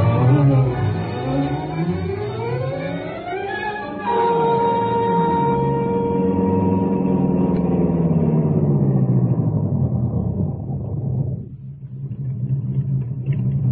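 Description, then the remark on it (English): A car engine hums steadily while a district attorney's car is being driven. Its pitch climbs and shifts as if accelerating and changing gear, then eases down to a low idle-like rumble near the end. “We'll use your car. The police respect it.”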